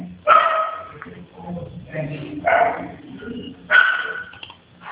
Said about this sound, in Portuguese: Só um minutinho. Gente, faz esses cachorros pararem de latir!